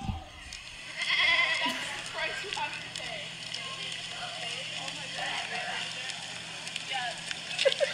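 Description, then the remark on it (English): Goats bleat repeatedly in wavering, overlapping cries at the Boise Goat-a-palooza 2018 goat festival, over a busy background of crowd murmur and outdoor noise. “Here's a live look at Boise Goat-a-palooza 2018.”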